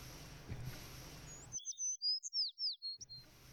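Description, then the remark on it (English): A finch trained to chirp, kept in a box as in the Vinken finch-singing sport, chirps in a quick run of about eight to ten bright, high cheeps, clear, with a hissy background before and after the burst. “You've just trained this bird to chirp.”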